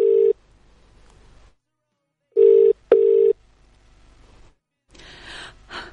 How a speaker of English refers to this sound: It's ringing. Can you hear the ringing? Please hear the ringing.